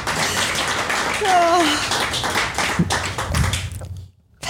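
A crowd claps steadily in dense, crackling applause for a deal just agreed, with a brief rising whoop or whistle partway through, before the clapping drops off abruptly near the end.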